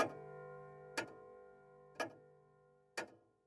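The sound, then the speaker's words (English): A pendulum clock with a hand-painted moon wheel above its face ticks four times at a steady one-per-second pace, each sharp tick leaving a faint resonant ring hanging in between. It sounds fairly quiet, with no voices. “circle to see if its pendulum was still alive.”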